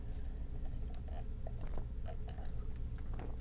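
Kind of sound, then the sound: food or drink, sipping a drink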